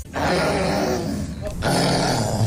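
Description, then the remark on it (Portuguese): A five-year-old Scottish girl lets out a long, throaty growling roar in imitation of a lion, loud, with a brief pause before a second rumbling burst. “Esta menina de 5 anos imita na perfeição um leão.”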